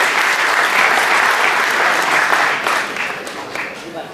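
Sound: audience applauding loudly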